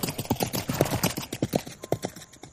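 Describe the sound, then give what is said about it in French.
A pair of wooden clogs clack on the hard ground of the deserted Place des Capucins in the small town of Valognes, at half past eight on a December day after rain, in a brisk, steady walking rhythm, about a dozen hollow knocks over a couple of seconds, with no voices or other sounds around them. “Le bruit de deux sabots troublait le silence de la place des Capucins, déserte et morte.”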